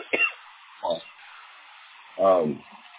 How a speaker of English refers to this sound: I was coughing, I apologize.